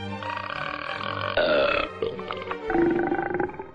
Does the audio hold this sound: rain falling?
no